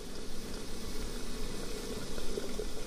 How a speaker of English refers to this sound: I sit next to a sunken hearth, where a kettle is already steaming.